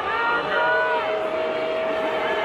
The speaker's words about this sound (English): Now they're getting booed. All during the anthem, by the way. The anthem they love so much, they're talking over it.